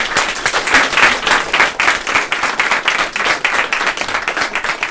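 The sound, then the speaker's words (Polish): Steady audience applause at Galeria R5, an independent gallery, the audience applauded for being there, many hands clapping in a dense, continuous patter that holds at a fairly loud level for several seconds with no voices over it. “Słuchajcie, wam brawa, że tu jesteście. Bez was tego miejsca by nie było, także brawa dla was.”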